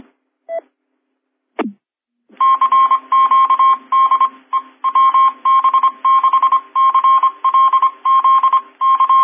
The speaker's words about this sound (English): Okay, CQDX in Morse code with my call sign.